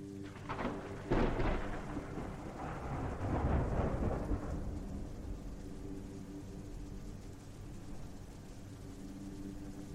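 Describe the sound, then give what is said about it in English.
A loud rolling rumble of thunder builds and fades over several seconds, then steady rain hisses on alone. No voices. “I have a feeling it's going to rain.”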